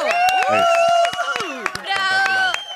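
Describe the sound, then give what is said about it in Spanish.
An audience claps in scattered, uneven bursts to welcome a guest, with loud voices cheering and calling out over the applause throughout. “Aplaudan con más ganas. Así, bravo.”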